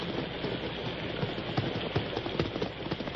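Steady, heavy rain hisses through the whole stretch of a storm, with irregular hollow hoof clops of tired horses, including Silver, moving as they are led into a barn, cutting through the downpour. No one speaks.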